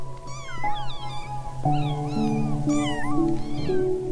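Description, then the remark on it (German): Five newborn kittens (two red, one brown, one black-and-white, one all white) mew in high, thin, overlapping cries, repeated rapidly, over a steady low hum in the background. “Zwei rote sind dabei. Ein braunes. Ein schwarz-weißes. Und ein komplett weißes Kätzchen.”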